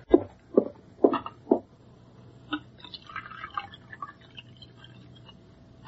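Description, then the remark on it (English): Four quick clinks of china open the scene, then a soft, trickling pour of a fresh cup of coffee follows, with no talking over it. “Then you'd better pour him a fresh cup, hadn't you?”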